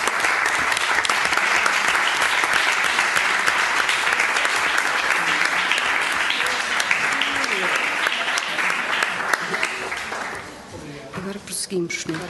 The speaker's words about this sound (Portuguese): Pode-se fazer uma espécie de uma votação final global para ficarmos aqui todos em sintonia em relação ao projeto aprovado, mais ou menos simbólico, é para bater palmas. Muito bem.